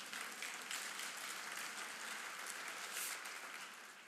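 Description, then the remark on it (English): A crowd claps steadily, many hands producing a dense, bright patter of applause that holds at an even level for about four seconds before easing off slightly. “Someone clap their hands there, yes.”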